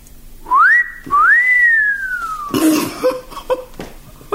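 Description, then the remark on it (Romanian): A man gives a two-part admiring whistle, a short rising note then a long rising-and-falling one, loud, followed by a brief cough and some quiet rustling. “Te fluieratul dumitale admirativ.”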